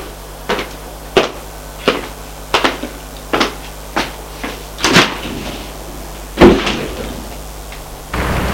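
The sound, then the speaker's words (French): A heavy entrance door on the ground floor of an old, run-down apartment building is handled with a run of sharp, evenly spaced clunks, then two louder thuds and a rush of noise as it opens; fairly loud, with no voices. “Arrivé au rez-de-chaussée, il va ouvrir la porte de l'allée.”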